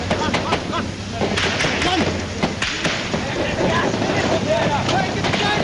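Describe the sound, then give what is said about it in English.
Scattered gunshots crack out at irregular intervals, sharp, over a constant rough roar of wind and background noise with indistinct voices mixed in, heard at a military base near a UN compound. “I'd arranged to go out on patrol with the Gurkhas this morning, but as I waited for them to get ready in their base near the UN compound, the sound of gunfire suddenly threw the whole place into panic.”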